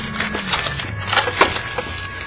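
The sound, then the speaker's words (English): A wooden drawer slides open with a rough, scraping rattle and a few knocking creaks, moderately loud and steady for about two seconds, with no voices. “Open the drawer, I told you.”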